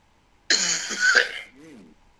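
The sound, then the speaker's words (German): A sudden, harsh cough and throat clearing bursts out, lasting about a second, followed by a brief low voiced murmur as it settles. “Husten.”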